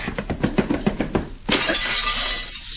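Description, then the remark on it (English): A series of rapid, rhythmic thuds gives way to a loud crash of window glass shattering as a man is hit so hard he goes through the window, followed by a sustained wash of tinkling, scattering shards. No one speaks. “Cisco hit that Jumbo Maverick so hard, he goes through the window.”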